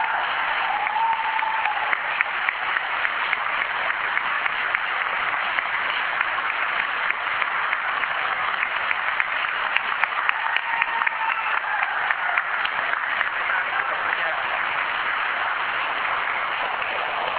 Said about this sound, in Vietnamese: Cho nên ngồi tràng vỗ tay, chúc mừng hai người anh em.